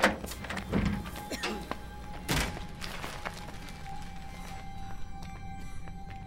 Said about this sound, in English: Right after I close the door.